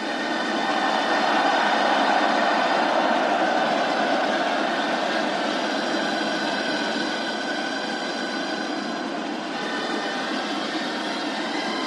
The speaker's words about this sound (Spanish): Mientras tanto, mira, si te parece, podemos escuchar el sonido en directo de la plaza consistorial, ¿eh? Atento, que se te va a parar la piel de gallina.